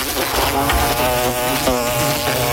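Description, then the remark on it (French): A loud insect buzz drones continuously for a couple of seconds, a wasp or hornet hovering with a steady whining hum that wavers slightly in pitch. “L'été arrive et les nuisibles aussi. Guêpes, frelons, rongeurs, punaises de lit, cafards.”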